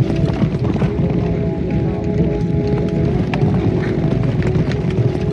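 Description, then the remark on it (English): A dense, continuous drumming of galloping hooves thunders, many racehorses in a race pounding together in a rapid, unbroken rumble over a low steady hum as they turn for home, with Do Re Mi Fa Sol La Ti Do leading. “And as they turn for home, the leader is Do Re Mi Fa Sol La Ti Do.”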